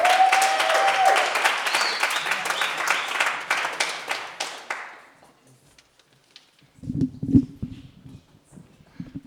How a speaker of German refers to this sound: Es kommen zwei Menschen auf die Bühne unter eurem Applaus. Applaus für Somali Holztisch-Seminar.